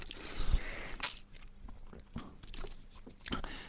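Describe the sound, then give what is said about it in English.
Someone takes quiet sips of water, with a few soft slurps, wet mouth clicks and a swallow, spaced irregularly and with no talking. “I'm gonna have a little sip of water while I check that.”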